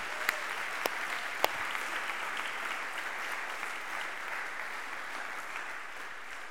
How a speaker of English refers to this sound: Listen, would you give our band another round of applause for leading us?